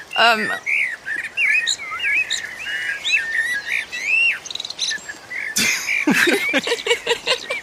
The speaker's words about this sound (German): Oh, hör mal! Gar nicht so einfach. Was das wohl für ein Vogel war?